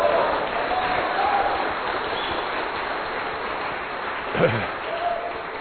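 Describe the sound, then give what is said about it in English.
An audience claps in praise of the Lord, steadily, in a dense, continuous patter for several seconds, with faint voices murmuring underneath and one brief louder burst near the end. “Say praise the Lord or clap for Him or do something.”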